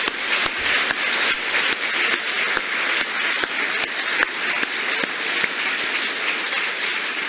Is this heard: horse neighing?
no